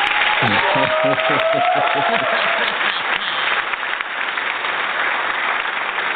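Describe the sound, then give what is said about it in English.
Steady, dense applause fills the whole stretch, a loud crackle of many clapping hands, with a voice talking over it during the first couple of seconds before the clapping carries on alone. “I think the audience needs to give you a round of applause.”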